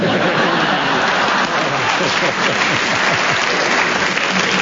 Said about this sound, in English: You get a round of applause from the audience, right?